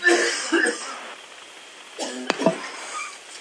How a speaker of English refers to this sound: My gosh, we've had an outbreak of the coughs in the committee room this morning. I have to start handing out masks quickly, I think.